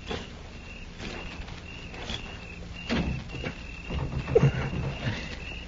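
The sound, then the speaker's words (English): A bolted door is rattled and shaken against its latch in several uneven bursts, moderately loud, with a faint steady chirping hum running underneath. “I'm going to try the door.”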